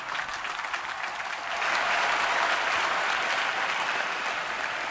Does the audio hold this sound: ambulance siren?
no